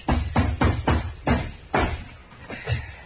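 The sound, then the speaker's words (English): A hammer drives a nail into an old wooden door of rotten, dry wood with a quick run of about eight or nine solid knocks, fairly steady at first, then pausing before a final pair of blows. “Now, let's just try one more nail.”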